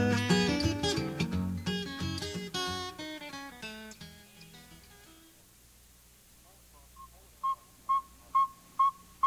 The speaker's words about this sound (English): All across the northern part of the United States, tiny saw-whet owls are now hooting all night to find a mate. In northern Michigan, it's prime time to hear the saw-whet's monotonous call.